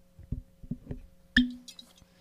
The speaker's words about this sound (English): pouring himself some whiskey. He's finally drinking with me.